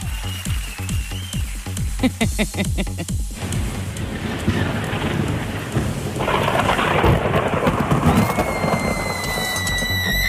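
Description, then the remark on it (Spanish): Deep, rolling thunder rumbles through a heavy rainstorm, the low roar building and swelling over steady rainfall, loud with no voices present. “Ahí ya, si ya van pasando los truenos, si no es tanto, ya no se asuste.”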